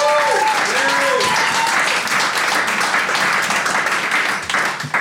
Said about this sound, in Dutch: Mag ik van jullie een heel hard applaus voor mijn gasten van vandaag.